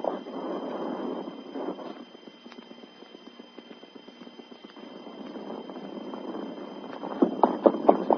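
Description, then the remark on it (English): Sergeant Preston's horse clip-clops at a steady walking pace in the town of Rockville, where he ties it to the hip rail outside the store, with a muffled, lo-fi tone. The hoofbeats grow sharper and louder toward the end. “In the town of Rockville, Sergeant Preston tied his horse to the hip rail and entered the store.”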